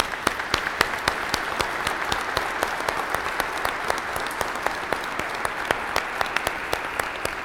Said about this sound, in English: Give them a round of applause for all they have done and do for us.